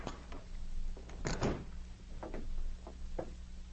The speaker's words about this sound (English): A few minutes later, they knocked on his door.